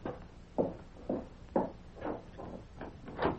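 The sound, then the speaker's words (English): A deputy's keys clink and scrape against a door lock as someone tries to find the right one, in a quick, uneven series of about seven small metallic knocks and rattles, fairly quiet, with no voices. “Get him while I find the deputy's keys and unlock the door.”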